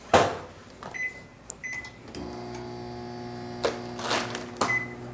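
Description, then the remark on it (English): A microwave door clunks shut and a few short beeps sound, then the microwave starts up with a steady electrical hum and rattle while softening cold cream cheese, interrupted by a couple of brief clatters. “We're just putting it in the microwave because it was cold.”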